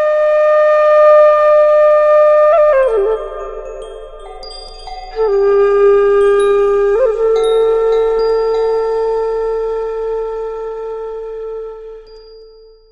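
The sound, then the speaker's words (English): A meditation gong rings at the start of a meditation session with a long, shimmering tone, swelling again a few times as it sustains, then slowly fades away. No voices are heard. “By this time the gong is probably rung, but you still go through the settling process, and you begin when you're ready to begin.”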